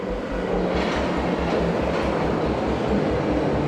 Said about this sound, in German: und setzte sich in den Zug in Richtung Bremen.